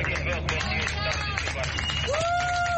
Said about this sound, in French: Des applaudissements ont fusé alors que des migrants débarquaient du navire de secours affrété par SOS Méditerranée et Médecins sans frontières.